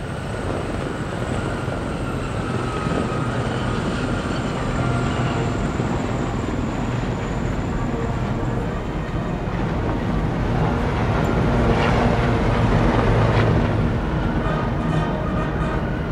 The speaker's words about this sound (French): Là, on entend passer le défilé de l'aviation légère de l'armée de terre. Ce sont les hélicoptères de l'armée de terre. Gazelle Haute Viviane.